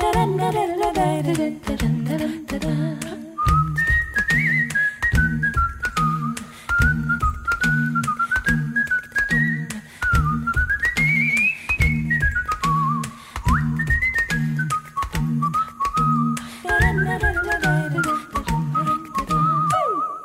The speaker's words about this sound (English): You naughty little maiden, what makes you whistle now? Well, I'd rather whistle for a man than either sheep or cow.